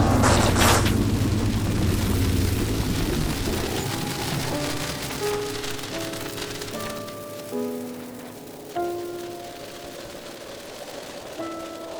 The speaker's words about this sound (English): It's good to be out of that awful storm.